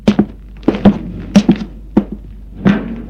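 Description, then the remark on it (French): Knocking on a wooden door in short clusters of two or three raps, each a dull thunk, repeated several times over a few seconds with brief pauses between. “On frappe à la porte.”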